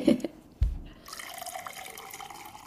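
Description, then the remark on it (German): Someone takes a sip of water: a soft thump of a glass, then a steady, wet liquid hiss lasting a couple of seconds, with no talking. “Jetzt einen Schluck Wasser.”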